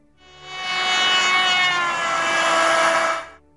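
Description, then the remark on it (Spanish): A loud, sustained horn-like tone, rich in harmonics, from a car horn or ambulance siren passing by, swells in and holds for about three seconds while its pitch slides gradually lower as the vehicle passes, then cuts off, with no talking. “En criollo es lo que escuchamos cuando un auto se nos acerca tocando la bocina o una ambulancia la sirena, y en el momento en que nos pasan por al lado, el sonido de la bocina o de la sirena se vuelven más graves, como en este caso.”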